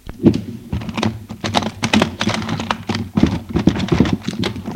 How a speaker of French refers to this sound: Pendant que je conduis, monsieur ouvre la boîte à gants. Il fouille.